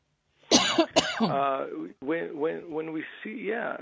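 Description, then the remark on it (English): Two sharp coughs in quick succession, followed by a few seconds of voiced, rumbling throat clearing. “I'm sorry, I have a cough”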